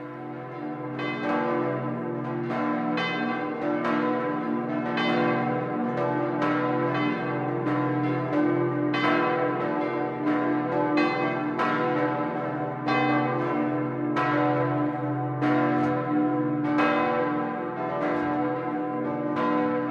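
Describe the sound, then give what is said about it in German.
Five church bells on the Holy Mountain of Lower Bavaria, cast in the mid-17th century by Georg Schelchshorn of Regensburg, peal together in a dense, continuous ringing, with overlapping strikes and a sustained humming resonance that stays loud throughout, with no voices. “Dazu läuten seit der Mitte des 17. Jahrhunderts 5 Glocken, die der Regensburger Georg Schelchshorn gegossen hat.”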